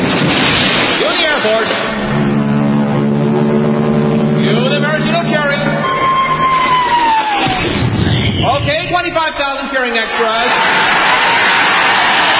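A huge crowd of 25,000 extras roars and cheers loudly as a 10-ton maraschino cherry is dropped into whipped cream, with sustained horn-like tones and a gliding whistle rising above the din before the noise swells again.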